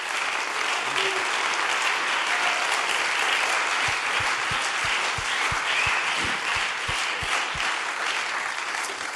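Sustained audience applause for a guest musician fills the whole stretch, a dense, steady wash of many hands clapping at an even loudness, with a faint rhythmic low thumping running beneath it in the second half.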